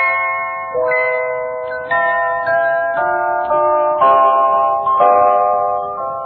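sound effect, wedding bells ringing

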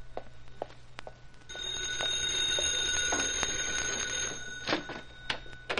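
household object, telephone ringing

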